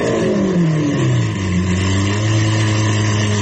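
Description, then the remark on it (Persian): A car engine revs loudly and steadily for a few seconds, its droning pitch sliding gradually downward like a moaning whine, with no voices. “مثلا این الان ببینید صدای گریه یک ماشینیه که داره یه گوشه‌ای برای خودش آروم گریه میکنه، نمیخواد ریا باشه.”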